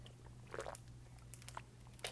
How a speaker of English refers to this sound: Oh, I just took a big drink of water.